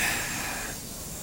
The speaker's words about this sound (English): All right, train's already coming in. It's early. Not complaining.